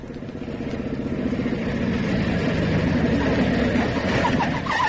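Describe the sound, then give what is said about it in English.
A police officer's motorcycle roars steadily and loudly along a road, its low throbbing drone swelling slightly and holding for several seconds with no voices. “I was just starting to search his pockets when I heard a motorcycle roaring along the road.”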